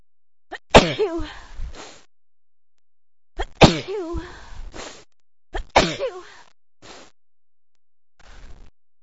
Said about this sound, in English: I feel like I'm gonna sneeze again.